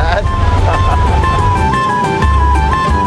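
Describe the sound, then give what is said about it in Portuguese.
Steady low engine and road rumble from inside a car driving on a snowy road with three people inside, continuous and fairly loud throughout, with faint indistinct voices mixed in beneath the drone. “Os três dentro do carro nasceram num país tropical.”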